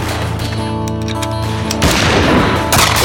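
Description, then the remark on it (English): Winchester rifle gunfire, fired from a windowsill: two loud, sharp shots crack out about a second apart over a steady droning musical backdrop, each blast leaving a brief rough, noisy tail. “Claiborne edged the Winchester's barrel over the windowsill and risked a look.”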